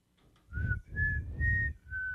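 A person tries to whistle: four breathy puffs of air, each carrying a thin, wavering tone that barely holds a pitch, with no talking.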